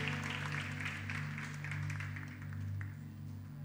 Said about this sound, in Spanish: dele un aplauso a mi hermano con toda seguridad.